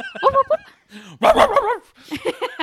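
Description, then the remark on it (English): An Alsatian dog barks and yelps in a quick series of short, fairly loud bursts, some rising into whiny, pitch-wavering cries, with brief pauses between them. “He's a dog.”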